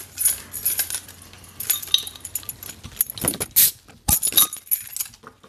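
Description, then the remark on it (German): A bottle of Sternburg beer is opened with a bottle opener: bright metallic rattling and glassy clinks, then a couple of sharp, crisp snaps as the cap pries loose. No one speaks. “Krieg ich mal einen Flaschenöffner?”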